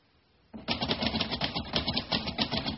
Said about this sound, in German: Ja, sie tippt jetzt weiter. Ist Ihre Schreibmaschine auf dem Stuhl? Nein, sie ist nicht auf dem Stuhl. Sie ist auf dem Tisch.